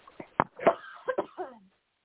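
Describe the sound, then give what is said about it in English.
A rapid run of about six harsh, hacking coughs packed into under two seconds, the last ones trailing into a wheezy breath, with no talking. “Every time someone coughs, my husband and I go, Corona, like, as a joke.”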